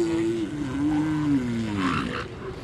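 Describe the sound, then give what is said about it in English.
A female elephant seal's rejection call, given when a male accosts her: a loud, sustained, harmonic bellowing wail lasting a couple of seconds, wavering in pitch and ending in a rougher, noisier squawk, with no talking. “The last call you'll hear quite frequently is what we call a female's rejection call.”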